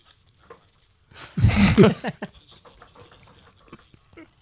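A loud, roughly one-second fart, picked up by a crowd microphone on a golf course during a BBC broadcast, rips out against quiet outdoor ambience, a low buzzing rasp with a wobbling pitch, followed by faint scattered crowd rustling.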